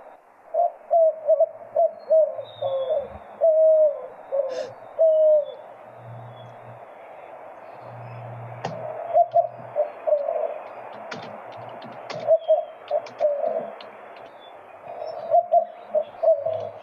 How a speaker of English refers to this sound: but we are going to listen to a real white-winged dove here.